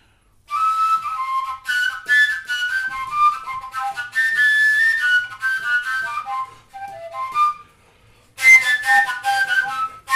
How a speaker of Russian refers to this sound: Те самые колюки, вот, на которых можно было играть и в одиночестве, так и сразу дуэтом.